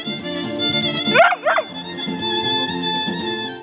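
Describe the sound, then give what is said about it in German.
A dog gives two quick barks over steady, droning instrumental music played by a Russian street musician in a busy shopping street of Novi Sad, Serbia, on a cold December morning, almost as if joining in with the tune. “einen offenbar musikalisch begabten Hund, der immer wieder Pavel ungewollt unterstützt”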